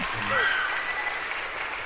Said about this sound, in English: Kevin Spacey applauding.